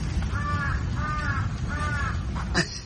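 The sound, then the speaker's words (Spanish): Three harsh crow caws in a steady, evenly spaced series, fairly loud, over a constant low rumble of background noise, with a brief sharp sound at the end. “Suenan los cuervos, o sea, está súper mal.”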